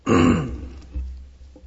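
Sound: throat clearing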